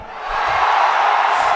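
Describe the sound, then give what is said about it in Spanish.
A live audience shouts together in a dense, sustained roar that swells slightly louder over a second and a half, many voices blending into one continuous wall of noise. “Muy flojo, ¿eh? ¡Más alto!”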